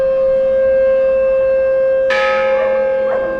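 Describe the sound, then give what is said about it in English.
In the town square of Guernica, a loud church bell clangs once near the end and rings out with a shimmering decay, over a steady, droning factory siren that holds throughout, sounding to commemorate the town's bombing by the German Luftwaffe. “And these sounds, factory sirens and church bells, are a commemoration of the bombing.”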